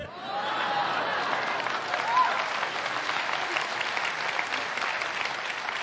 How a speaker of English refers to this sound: You don't need to clap. It's very kind of you, but it proves nothing.